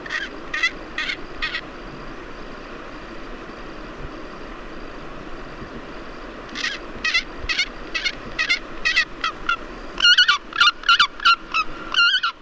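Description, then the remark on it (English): A Pallas's fish eagle gives repeated harsh, honking calls in rhythmic series, a short run at first, then longer bursts that grow louder near the end, with no talking. “So here is the real sound of a Pallas's fish eagle collected by Matthias Richard”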